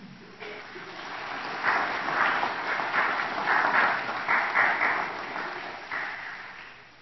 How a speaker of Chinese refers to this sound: 我们主七和尚来了，大家提起精神来，鼓鼓掌啊！